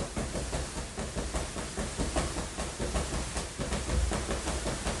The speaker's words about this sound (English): That a noisy balloon. I know, right? Okay, so he was about to lose it.